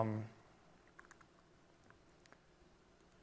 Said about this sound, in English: The internet is today a little bit slow. I actually have to restart typing.